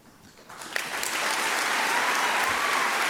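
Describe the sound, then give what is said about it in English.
Applause from a Catholic group audience after a speech starts with a few scattered claps, then quickly swells into steady, dense clapping that holds at full strength for about 18 seconds, with no voices over it. “And here follows a solid 18 seconds of applause.”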